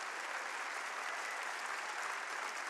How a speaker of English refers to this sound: He daily loads you down with everything you need. His hand provides. Clap your hands and praise Him like a maniac. Hallelujah.